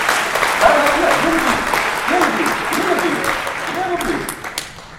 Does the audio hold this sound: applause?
yes